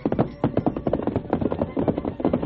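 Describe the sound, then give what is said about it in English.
A fresh horse ridden by a pony mail rider carrying a packet of mail sets off at a quick pace on the return trip, its hooves beating out a rapid, steady clip-clop rhythm of dull thuds that continues throughout. “He received the packet of mail, a fresh horse, then set out for the return trip to his hometown.”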